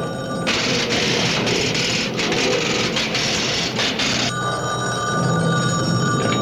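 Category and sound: household object, telephone bell ringing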